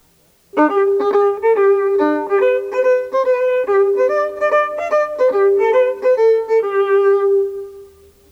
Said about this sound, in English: The boy playing the violin for this sound.